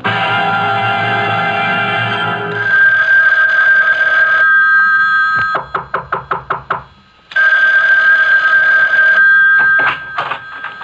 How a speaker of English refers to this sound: Isn't that your phone? I hear ringing. Yes? Why don't you answer it?